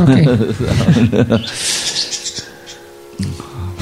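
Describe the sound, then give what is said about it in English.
Parrots squawk in the background, a burst of harsh, scratchy calls rising midway through, while a person talks at the start and again at the end. “There were many parrots at that time, so don't become disturbed”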